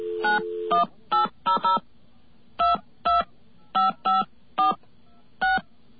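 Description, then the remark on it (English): A rapid series of touch-tone dialing beeps calling directory assistance: eleven short dual-pitched tones in irregular bursts over a steady low hum, with a brief dial tone at the start and no one talking. “Okay, we're going to call 1-800-CALL-INFO.”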